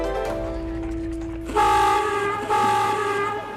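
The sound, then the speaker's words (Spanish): The old claxon horn of a convertible Renault honks loud: a sustained, buzzy tone shifts into two stronger blaring blasts, one right after the other, with no voices present. “Ese ruido que suena en este instante, ¿qué es, Gonzalo Fernández Santa Ana?”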